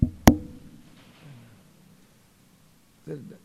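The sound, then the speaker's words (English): A single sharp, loud knock on a door rings out near the start, followed by a low fading resonance and quiet, with a brief voice starting up right at the end. “So one day again, Yamadutas knocked.”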